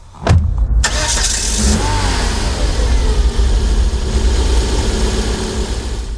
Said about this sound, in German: Ich lasse den Motor an und gebe Gas.